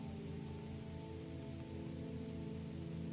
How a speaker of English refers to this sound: The rain accompanies you and it makes you lighter. It warms your being quite pleasantly.